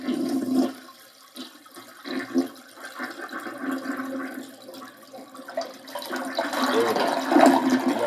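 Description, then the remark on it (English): A toilet flushes, a rushing gurgle of water that swells, eases briefly, then surges louder again toward the end as the bowl drains and refills. “So let's flush away those Sacramento Kings.”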